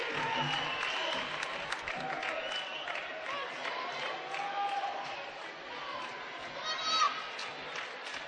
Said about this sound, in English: Crowd on both sides. Getting into it. You can hear the claps coming.